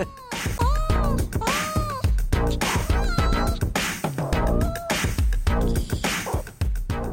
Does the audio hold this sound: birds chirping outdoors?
no